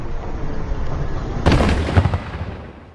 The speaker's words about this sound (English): We've heard at least 20 loud explosions like that over the last 10 minutes or so. Here's another one.